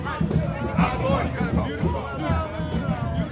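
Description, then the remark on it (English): A lively street crowd at night at the uptown intersection of 2nd and Dryades, lit only by streetlights, backing Mardi Gras Indian tribes as they confront and mock battle one another; many voices overlap into a steady, excited hubbub of chatter and calls with no single speaker standing out, at constant loudness. “Backed by an enthusiastic crowd, the tribes confront and mock battle one another.”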